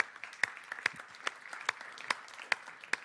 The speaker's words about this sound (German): Ein Applaus für Sebastian Hell, der auch im Publikum ist.